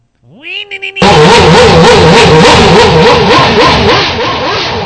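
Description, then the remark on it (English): A Formula 1 engine, hooked up to a computer during warm-up, revs up quickly, then roars loud, its pitch stepping up and down in a steady rhythmic pattern with no voices. “This is an F1 motor warming up.”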